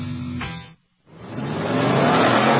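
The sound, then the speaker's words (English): Loud sports car engines roar in an endurance race at Sebring International Raceway, cut off by a brief moment of silence, then surge back in with a rising, sustained high-speed roar as the cars accelerate. No one speaks. “The Mobile One 12 Hours of Sebring, presented by Fresh from Florida, features the fastest race cars in the world.”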